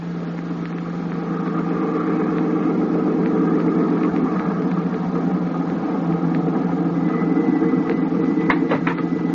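A car engine runs steadily throughout, a continuous low droning hum with a slight rise in intensity partway through, fairly loud with no voices.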